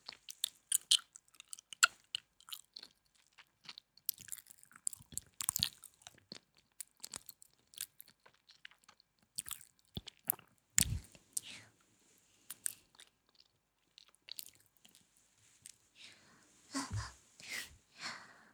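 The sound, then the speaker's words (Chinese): Someone chews and crunches ice cubes: irregular bursts of sharp, crackling crunches, with a few louder bites standing out among softer, brittle snaps and moist chewing sounds. “好凉啊，冰块吃起来的感觉真的好舒服呀。”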